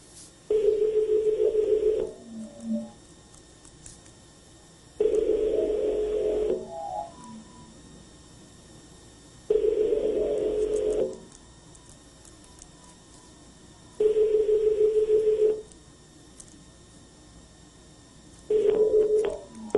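A phone line's ringback tone sounds alone as a call is placed from a broadcast studio: five steady, mid-pitched buzzing rings, each about a second and a half long, repeating at even intervals with quiet hiss between them.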